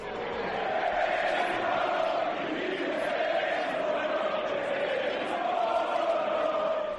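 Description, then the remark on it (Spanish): A large football stadium crowd chants racist insults in unison, shouting "Vinicius, eres un mono" at Real Madrid player Vinicius Junior. The massed voices form a dense, steady roar whose sung pitch sways up and down without pause for the full seven seconds. “Acabas de escuchar cómo le gritaban "Vinicius, eres un mono" a este chico de 23 años, pero este no ha sido un caso aislado.”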